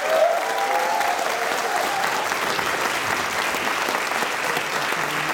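Sustained audience applause, a dense, steady crackle of many hands clapping at an even loudness for several seconds, with a faint cheer rising briefly at the start.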